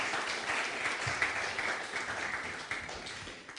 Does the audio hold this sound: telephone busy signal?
no